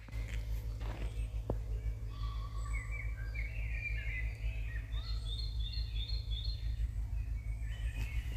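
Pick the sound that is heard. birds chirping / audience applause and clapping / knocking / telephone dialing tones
birds chirping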